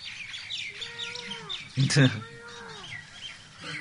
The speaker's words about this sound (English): No, oh my God, these are not parrots. I'm saved. These are other birds, not the parrots.